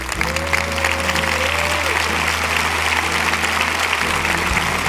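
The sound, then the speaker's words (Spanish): An audience applauds steadily throughout, a dense, sustained wash of clapping that holds the same level from start to finish, with a low hum and a faint tone running underneath. “Deles ese aplauso.”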